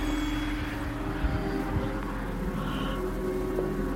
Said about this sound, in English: Felt like it was just kind of swirling all around us. You can hear cars, but you can also hear, like, trumpets in the sky somewhere.